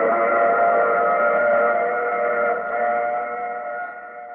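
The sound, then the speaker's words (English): A passenger train whistle sound effect from the 1952 radio drama The Mysterious Traveler blows one long, loud, sustained chord-like tone for several seconds, steady, fading slightly toward the end with no voices. “Oh, you have to get off here. I'm sorry. I'm sure we'll meet again. I take this same train every week at this same time.”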